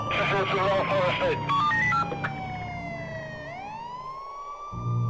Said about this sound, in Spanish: Qué sorpresa tan desagradable se llevó cuando escuchó las sirenas y vio todo iluminado de colores azul y rojo.